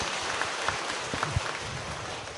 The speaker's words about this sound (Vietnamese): Vâng, xin đại chúng hãy cho thêm một tràng vỗ tay nữa.